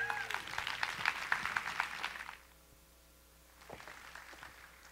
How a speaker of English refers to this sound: Big round of applause